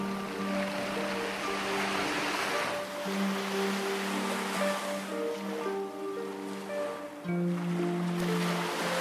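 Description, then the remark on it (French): Ocean waves wash in steadily with rising and falling surges of soft hiss, while sustained, mellow musical tones hum underneath. No one speaks. “Les deux sons vont se mélanger, le bruit des vagues de ta respiration et dans le bruit de fond de tes oreilles.”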